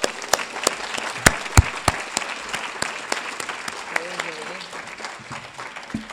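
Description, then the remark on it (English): An audience claps steadily for a woman, the sharp, overlapping handclaps forming a continuous round of applause that gradually softens, with a brief murmur of voices near the end. “Give her a nice round of applause.”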